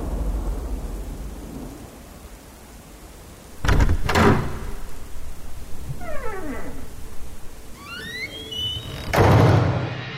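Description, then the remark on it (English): A shop door is handled over a low rumbling background: a pair of heavy thuds, then sweeping creaks like hinges swinging, and a final solid bang as it shuts. No one speaks. “On that day, the specter opened the shop door, went in, displaced a few articles, went out, shut the door, and from that time, nothing more was seen or heard of it.”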